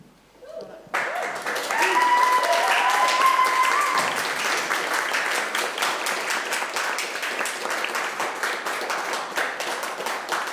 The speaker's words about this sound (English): So they're feeling a bit nervous. So that was really good to give them a round of applause.